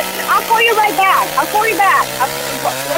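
A chainsaw runs steadily with a buzzing motor drone, its pitch surging and dipping in a few quick revs, loud throughout with vocal-like sounds mixed over it.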